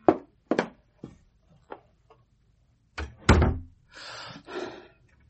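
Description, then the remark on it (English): A door is pulled shut: a few sharp clicks and handling knocks, then one solid thud as it closes, followed by a brief rattling rustle. No one speaks. “Go out, shut the door, and don't let me be disturbed.”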